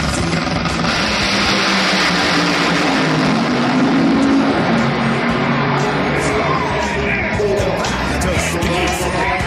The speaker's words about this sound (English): That's what 5,000 horsepower sounds like, Mr. Kaiser.